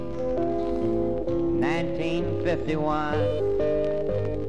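A folk song plays steadily, with a sung vocal line over sustained instrumental accompaniment, fairly loud and continuous from start to finish.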